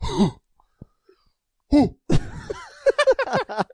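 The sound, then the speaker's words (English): A person makes a few short, throaty coughing and huffing noises, mimicking a cow's cough, with bursts separated by brief pauses and some breathy vocal sounds. “Or they can't cough. They cough like a cow. How's a cow cough?”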